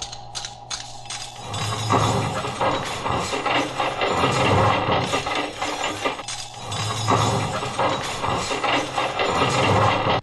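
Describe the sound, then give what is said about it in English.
Silverware grinding and clattering inside a running sink garbage disposal after plates were scraped into it, a loud, continuous metallic rattle and crunch over a low motor hum, surging in two waves for about ten seconds. “I just scraped everything off the plates into the disposal, and the silverware made a little noise.”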